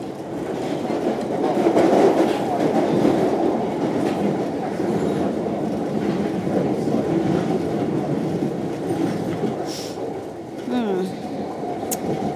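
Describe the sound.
An underground tube train rumbles steadily along the rails with a loud clatter, and a short metallic wheel squeal rises near the end; faint voices murmur beneath the noise. Heard while riding at the back of the train.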